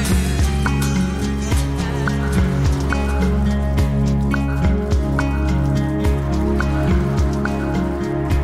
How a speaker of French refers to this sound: En avant-plan, la pluie et le ciel anthracite. Derrière la place Clichy, les Batignolles à droite.